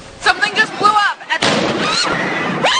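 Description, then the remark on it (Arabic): A sudden loud bomb blast at the finish line of the Boston Marathon in Boston, Massachusetts, bursts out partway through, followed by a sustained roar of noise, with agitated voices shouting before and after the explosion. “الانفجاران الأول والثاني وقعا عند خط نهاية ماراثون بوسطن بفارق ثوان، ونتج عنهما سقوط العشرات بين قتيل وجريح”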